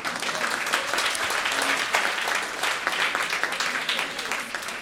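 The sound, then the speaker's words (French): An audience in a hall applauds steadily for CanadaLand supporters and subscribers, a dense wash of many hands clapping at an even, sustained loudness for several seconds with no voices standing out. “Et on sont dans la salle, on va les applaudir.”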